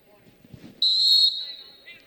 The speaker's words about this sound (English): Yep, inadvertent whistle. So the inadvertent whistle, it should be the jump ball, right?